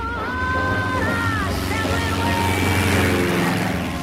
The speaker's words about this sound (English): He's standing on a remote Earth airstrip surrounded by rocky hills beside a yellow biplane. A plane takes off.